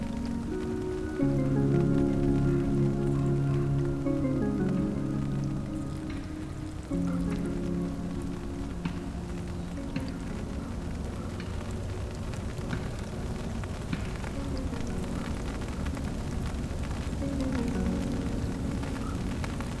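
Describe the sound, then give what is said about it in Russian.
Steady rain falls throughout, a continuous hiss of drops pattering on a surface, with sustained low tones droning underneath and no voices. “Начинается дождь, и лучшее, что можно сделать, это открыть зонт, достать термос и переждать непогоду.”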